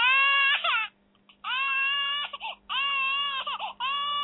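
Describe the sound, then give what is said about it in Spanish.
A crying sound effect from a soundboard: repeated high, wailing sobs in three long bursts with brief breaks between them, loud and alone with no talking. “Cuando no hay derecho, que uno llora de frustración.”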